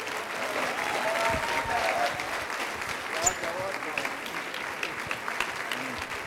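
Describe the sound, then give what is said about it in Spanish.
Sustained applause from a large audience welcoming a visiting apostle from Chile, a dense, steady wash of clapping lasting several seconds with a few brief voices and whistles mixed in. “Recibamos con un fuerte aplauso a Jesucristo”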